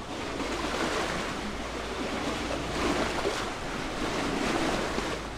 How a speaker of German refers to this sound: Später türmen dann Wind und Wellen die Schollen am Ufer auf. Überhaupt Wind und Wellen.